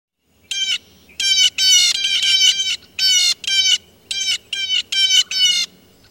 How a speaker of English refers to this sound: And now for the blue jay.